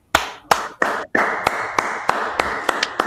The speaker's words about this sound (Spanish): Me sumo a los aplausos